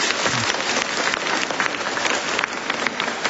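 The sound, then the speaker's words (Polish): Children applauding together, a dense, steady patter of many hands clapping at once that holds at an even, fairly loud level throughout, with no talking over it. “Brawa dla Was, bądźcie pozdrowieni.”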